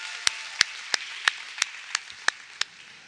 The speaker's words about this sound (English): Oh, we got one healing right over here. Give her a hand clap. Praise the Lord.